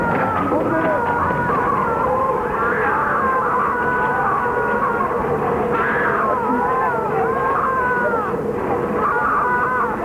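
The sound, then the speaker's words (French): A dense, panicked crowd of voices cries out together as a ladder falls onto it, leaving people injured, in a steady, unbroken din, with higher wailing shouts rising and falling above the churning babble throughout. “Il y a des cris, des blessés, c'est la panique.”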